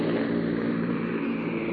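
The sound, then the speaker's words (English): A steady, loud engine drone from a throttled-back C-47 transport plane carrying paratroopers over the Netherlands fills the whole stretch, a dense continuous roar with a low throbbing hum underneath and no voices. “They're throttled back now.”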